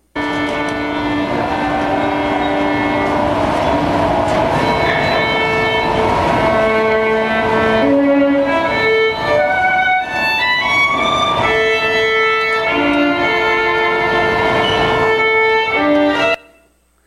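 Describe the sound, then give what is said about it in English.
A solo violin played in a subway station carries a flowing melody for about sixteen seconds, its sustained, bright notes shifting steadily in pitch over a faint, echoing background hum, with no talking. “So we're going to listen to a little music here”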